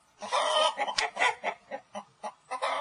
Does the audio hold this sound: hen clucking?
yes